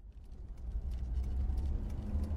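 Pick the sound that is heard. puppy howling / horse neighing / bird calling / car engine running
car engine running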